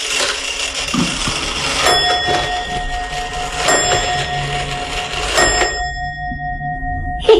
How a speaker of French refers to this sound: C'est suisse, c'est la pendule suisse, elle est vieille comme tout.